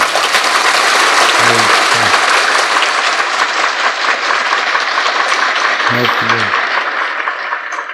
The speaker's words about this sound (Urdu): کچھ مجھے جوش دلاؤ, تالی بجاؤ.